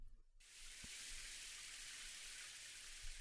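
A shower sprays on steadily after a brief quiet moment, rinsing soap foam off a person: a continuous hiss of running water with a few soft low thumps, fairly loud.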